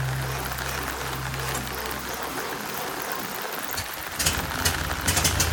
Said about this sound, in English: Well, sounds like Murphy has finally got the engine running.